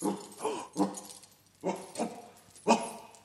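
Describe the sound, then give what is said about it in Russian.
A dog lets out a series of short whiny yelps and soft barks, about six in a row with brief pauses, moderately loud, with no one talking, as it wakes up and climbs out of its doghouse in the heat. “Проклятый пес проснулся и вылезает из домика.”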